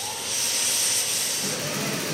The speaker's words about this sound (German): Das Zischen versucht es immer wieder. Es hat keine Chance. Bügelmaschine gegen Nähmaschine. Die Nähmaschine ist lauter und schneller. Die Nadel kämpft sich unbeirrt durch den Stoff, als soll das Rattern alle im Raum antreiben.